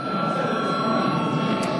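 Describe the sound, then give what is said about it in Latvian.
A parliament session bell, called for before a break in the session, rings continuously with a steady, buzzing metallic tone at an even loudness, holding without pause or change. No one speaks over it. “Lūdzu zvanu.”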